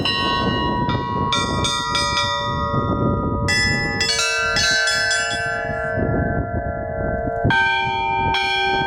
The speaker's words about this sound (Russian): С могучего духовного корабля, возвышающегося над селом, начиналась жизнь более чем 330 капитанов, родившихся в Кадницах. Забытый и покинутый в советские годы, сегодня Дом Божий возвестил звоном своих колоколов, что он снова жив.